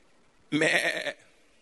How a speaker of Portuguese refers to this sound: E a imagem que Ele te deu é a imagem de uma ovelha. Barulho de ovelha?